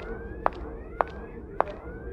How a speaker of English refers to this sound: Now you can hear the alarm fading out because we're walking away from it.